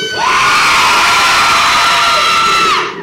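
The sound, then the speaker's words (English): A crowd of people from Salt in Maine screams together on a countdown, in one loud, sustained burst of high-pitched cheering that holds steady for about three seconds before trailing off. “I know that there are a bunch of people here from Salt in Maine, and I want to hear a Salt scream on 2, 1, 2.”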